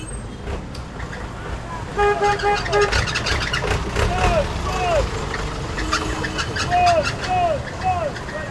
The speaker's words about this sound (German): An der Abusei Okai Road, dem einzigen Straßenzugang von Sodom und Gomorra, werden ständig Lastwagen mit Schrott entladen. Die meisten Lastwagen kommen von dem nahegelegenen Hafen, wo jeden Tag Schiffe mit Containern aus Europa eintreffen.